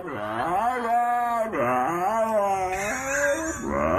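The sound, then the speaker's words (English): A dog lets out long, drawn-out howling whines, its pitch sliding up and down in loud, continuous waves with only brief breaks between them. “Is that a dog? Yeah.”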